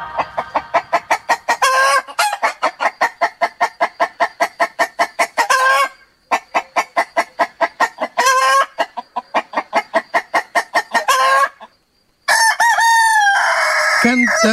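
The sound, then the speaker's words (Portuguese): Loud rooster sounds: long runs of rapid, throaty clucks broken by short pauses, then a full cock-a-doodle-doo crow rising and falling at the end. No one speaks. The rooster crows on a Sunday morning on Rádio Alfa to announce that the programme Terra em Terras das Margens da Tradição is on air. “Canta o galo ao domingo de manhã aqui nas ondas da Rádio Alfa para anunciar que o programa Terra em Terras das Margens da Tradição já está no ar.”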